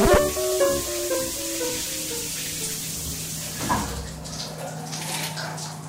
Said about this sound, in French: J'ai pris une douche froide. Ça n'a servi à rien.